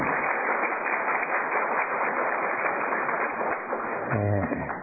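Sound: welcoming applause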